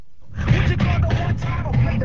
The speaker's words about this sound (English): are cruising Baghdad in their dad's beat-up car, listening to one of their favorite radio stations, The Voice of Iraq.